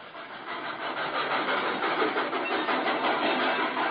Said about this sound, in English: Lelandsville was a whistle stop for most Great Valley trains, but the weekend flyer stopped for us on signal.